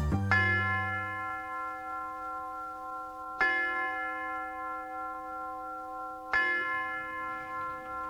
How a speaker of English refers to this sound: The University Tower chimes ring another session of Ask the Professor, the radio show in which you match wits with University of Detroit professors